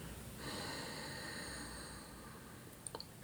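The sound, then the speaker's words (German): A long, soft, breathy exhale of about two seconds, quiet, as people breathe out together to synchronize their breath before chanting Om, followed by near silence and a couple of faint clicks. “Wir atmen gemeinsam aus, um unseren Atem zu synchronisieren.”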